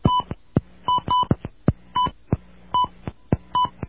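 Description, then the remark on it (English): A rapid series of telephone keypad tones, short bright beeps paired with sharp clicks in an uneven rhythm, as the digits 796 are punched in on a phone in reply to an automated phone system's password prompt. “The number you dialed is 796.”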